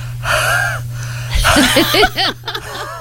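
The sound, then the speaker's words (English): Several heavy, breathy exhalations as a man breathes onto his phone, followed by a few short voiced chuckles and gasps. “he's just breathing on his phone, folks.”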